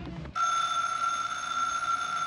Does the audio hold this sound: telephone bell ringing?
yes